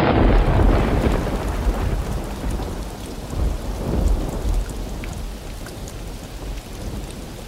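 thunderstorm with heavy rain

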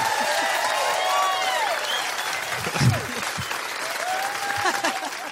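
audience applause

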